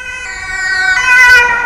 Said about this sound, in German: Lass uns keine Zeit verlieren. Wir gehen los. In Windeseile steigen sie in den Krankenwagen und fahren los.